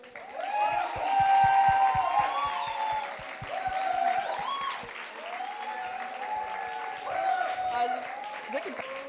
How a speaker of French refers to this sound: Avant toute chose, est-ce que l'on peut applaudir les 5 groupes juste ici?